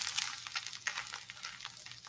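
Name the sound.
egg frying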